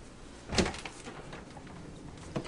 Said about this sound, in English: The great convenience of this office is the fact that it goes right into my bedroom. See? Oh. Yeah, I'm going to open the door.